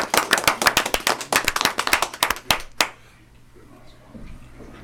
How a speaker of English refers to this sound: Let's give Lieutenant Highsmith one more round of applause. Again, thank you so much.